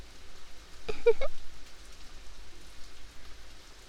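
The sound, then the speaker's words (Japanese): Heavy rain pours steadily throughout, a dense continuous hiss, with a brief soft vocal sound near the start but no clear speech. “なんだかこうして二人並んで雨が止むのを待ってるっていいね。結構雨降ってるからなのか人通りも少ない。”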